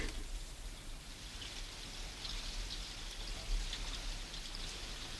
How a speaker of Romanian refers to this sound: Dar acum s-a preschimbat în ploaie.